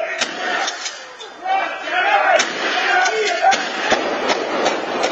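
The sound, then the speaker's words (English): Surveillance camera audio of a string of sharp gunshots, a shotgun blast followed by pistol shots, cracking out irregularly over roughly ten bursts while a crowd shouts and yells underneath. “It's chilling, but what forensics experts hear is the gunshots, a shotgun, then a pistol.”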